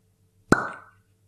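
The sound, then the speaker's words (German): A single sharp cork pop from a whisky bottle, fairly loud, with a short hollow ringing tail that fades within half a second over a faint low background hum. “wegen dem Korken, ich bin ein bisschen vorsichtig, dass da hier nichts schief geht.”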